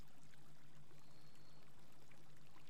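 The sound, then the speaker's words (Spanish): A soft, steady rush of flowing water, like a stream running continuously without pause, heard at low volume with a faint hum underneath and no voices. “Y comienzo a escuchar el sonido del agua.”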